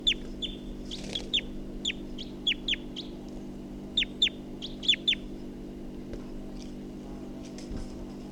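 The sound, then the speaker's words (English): Sharp, high-pitched calls of a wild bird, logged as bird 348, ring out in quick bursts of two or three chirps, repeating for several seconds over a steady low hum, then stop, leaving only the hum. “Recording, I think the wild bird took off at 7:29, and this is bird 348.”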